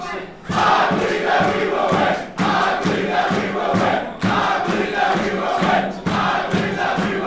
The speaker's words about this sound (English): It's a rowdy bunch with lots of jerseys, flags, and, of course, chanting.